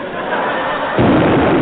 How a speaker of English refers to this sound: He's opened fire. Duck! Why? There's a cannonball coming.